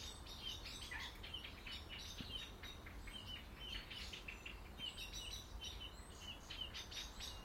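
blackbird calling

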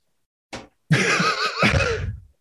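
horse whinny sound effect

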